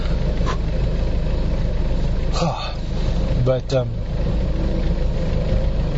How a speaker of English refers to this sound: But, man, so many cars. Wow. So many cars on the road right now. And they keep bringing new ones all the time. And these old ones, you know, people know how to keep them running. So they just keep adding in more and more and more traffic.